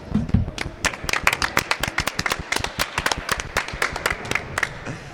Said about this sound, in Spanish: Fuerte aplauso